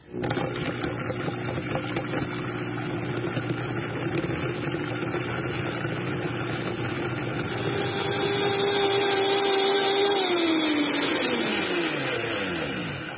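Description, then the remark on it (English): A powerful Vitamix blender blends oil with herbs and garlic. Its motor roars steadily for several seconds, the whine rising slightly in tone before the pitch slides down as the machine winds down near the end. “Okay, the Vitamix is really strong. I'm going to put it on.”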